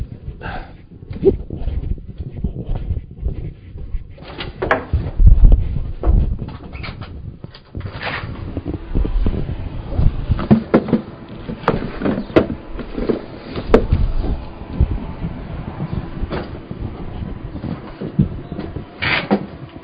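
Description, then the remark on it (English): A door opens and closes for a package delivery amid scattered thumps, rattles and shuffling footsteps, with a low rumbling background and no clear talking throughout. “I have somebody at the door interrupting me.”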